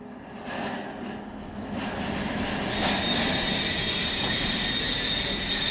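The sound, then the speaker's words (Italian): A train rolls steadily along the rails with a continuous heavy rumble, and partway through a high, sustained metallic wheel squeal rises and holds over the clatter. “Da Victoria Station a Parigi, Gare du Nord, ci vogliono circa 3 ore e mezza di treno.”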